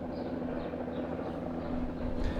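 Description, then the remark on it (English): An NYPD police helicopter drones overhead above a backyard in summer, a steady, fairly loud mechanical hum with a deep rumble underneath that swells slightly toward the end. No one speaks. “where we are joined today by an NYPD helicopter.”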